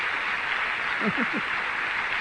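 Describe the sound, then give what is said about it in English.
A large crowd of brethren claps in a steady, dense wash of applause, with a brief voice rising faintly underneath partway through. “And maybe you can hear the applause here. There's our brethren here applauding you.”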